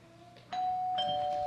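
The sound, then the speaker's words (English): A doorbell rings for the third time, chiming clearly, a bright sustained electronic tone starting about halfway through, with a second higher chime joining shortly after, ringing on steadily with no talking. “And for the third time, the bell rings.”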